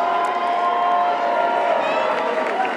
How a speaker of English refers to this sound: Many in the crowd chanted, four more years and stop the steal.